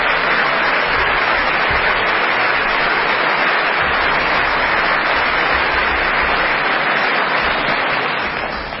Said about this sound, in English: Why is it Nancy clapping her hands?